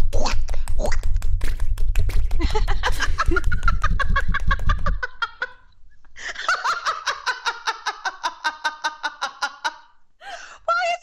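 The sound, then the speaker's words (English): Voices imitate chicken clucking in rapid, choppy bursts mixed with laughter, breaking off briefly midway before a second run of bright, squawky clucks and a final short cackle. “Like we're in a barnyard.”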